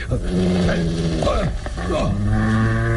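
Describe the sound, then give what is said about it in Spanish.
A wounded, nervous dog growls low and steadily for a few seconds at its master, loud, its rumbling snarl rising and falling in pitch with brief breaks between threatening bursts. “¿Olvida que este maldito perro me obedece?”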